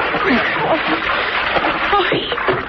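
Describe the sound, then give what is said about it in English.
Continuous loud splashing and churning water as a woman goes over the side into the water, with muffled voices faintly underneath. “Come on over the side, lady.”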